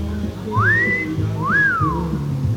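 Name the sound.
pet bird whistling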